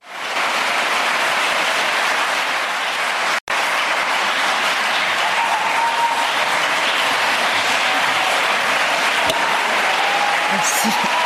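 Loud, sustained applause from a large crowd fills a packed hall in Paris at a secularism prize ceremony, a dense wash of clapping that holds steady for several seconds, broken only by one brief cut.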